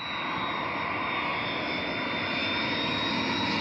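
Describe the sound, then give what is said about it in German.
A loud, steady roar of airplane engines as a plane takes off or lands at Frankfurt am Main airport, with a thin high whine running above the rumble and no voices throughout. “Der Flughafen Frankfurt am Main ist zurzeit meist nur dort ein Thema, wo Menschen in der Einflugschneise leben und unter dem Lärm der startenden und landenden Maschinen leiden.”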